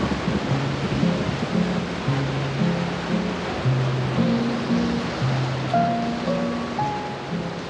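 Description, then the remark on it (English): A steady, dense, loud roar of hurricane wind and driving rain fills the scene without a break, from a hurricane touching down just to the north, with faint low musical tones drifting underneath and no voices. “And weather's going to be rough for the next day or two as the hurricane touches down just to the north, causing strong winds and rain all through the night.”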